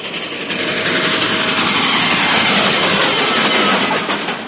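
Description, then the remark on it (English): A freight train rumbles past, a loud, steady roar of rolling wagons with faint rhythmic clatter, sustained throughout without any voices. “Yes, the familiar freight train is probably your best friend when it comes to helping you enjoy your car on the public highways.”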